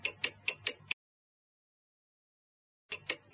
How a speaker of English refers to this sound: Look at the clock, Bobby. It's upside down.